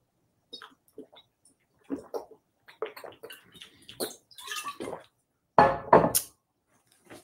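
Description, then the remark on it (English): Sipping from a glass of water: a few soft clinks and small mouth sounds, then two louder slurping gulps near the end, with no talking. “Sip me some of this water.”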